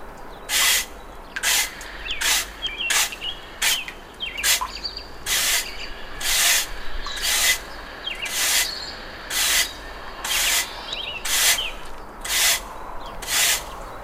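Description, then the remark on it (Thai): A nun of at least 40 sweeps fallen leaves alone with a broom at the Choeng Takon nunnery, in steady, rhythmic strokes, each a bright, scratchy swish repeating roughly every second, while faint bird chirps twitter in the background. “ทั้งสองเดินเข้าไปภายในพบกับแม่ชีวัยไม่ต่ำกว่า40กำลังกวาดเศษใบไม้อยู่ตามลำพัง”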